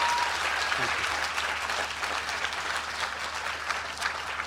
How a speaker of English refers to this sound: The venue manager's been great. Would you give him a cheer? Thank you.